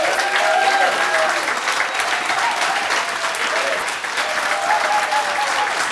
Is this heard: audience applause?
yes